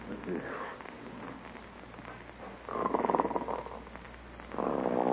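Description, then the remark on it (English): Loud, rasping snores: a hushed, breathy stretch, then two drawn-out throaty snores a couple of seconds apart, each swelling and rumbling, with the second cut off at the end. “Oh, isn't that awful? Snoring already. Listen to that.”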